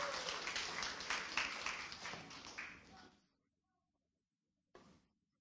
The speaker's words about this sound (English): Give these guys a great round of applause.